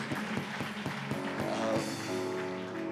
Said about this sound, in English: And it is good to see so many at Good Friday service. We didn't expect so many people. So you can give yourself a hand clap. Amen.